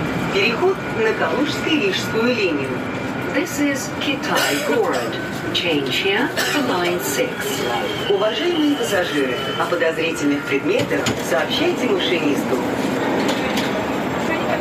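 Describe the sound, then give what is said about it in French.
Inside a moving metro train, a steady low rumble of the train sits under a dense, loud crowd of voices shouting and cheering together at the first Russian goal, continuous throughout. “Alors là, vous allez entendre le premier but russe dans le métro.”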